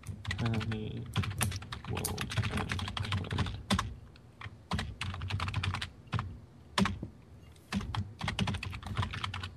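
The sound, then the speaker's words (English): Someone pounds hard on a computer keyboard, a dense, clattering stream of loud keystrokes coming in rapid bursts with a few brief pauses between them. “do you really, really bang on the keyboard?”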